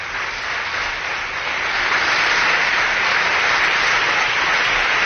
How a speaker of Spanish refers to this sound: Isabel Díaz Ayuso está abandonando esa tribuna de oradores, va hacia su escaño y, por supuesto, toda la bancada del Partido Popular en pie y aplaudiendo.